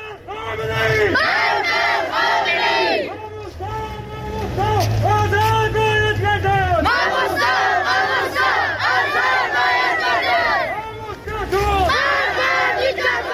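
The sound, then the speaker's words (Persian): A large protest crowd in Sanandaj chants loudly in unison against increased pressure on Sunni clerics and demands the release of two Sunni clerics. Many voices rise and fall together in repeated rhythmic phrases, with a steady low rumble underneath and brief dips between bursts of shouting. “در سنندج علیه تشدید فشارها بر روحانیان اهل سنت تظاهراتی برگزار شد و معترضان خواستار آزادی دو ماموستای اهل سنت شده اند.”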